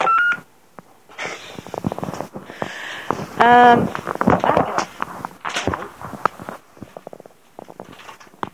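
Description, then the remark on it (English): A short electronic tone from the keypad of a cordless phone on top of a small three-drawer cabinet sounds at the start, followed by clattering handling noises, rustling and muffled voices. “We've got a cordless phone on the top, which goes.”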